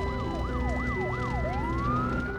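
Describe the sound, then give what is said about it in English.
Sirens of two fire engines arriving at a burning stable by a house wail in quick rising and falling sweeps, four cycles before a long upward climb, loud over a steady low engine rumble. “Two fire engines drive up and firemen leap into action.”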